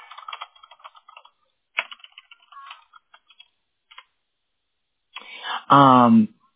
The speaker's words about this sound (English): So while he looks at that, oh, he's typing again already. I thought it'd take him a minute longer.